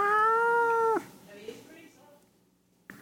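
A cat lets out one loud, drawn-out meow lasting about a second that bends downward at the end before trailing into quiet.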